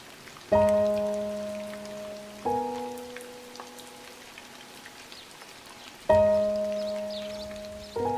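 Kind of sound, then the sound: nature, rain falling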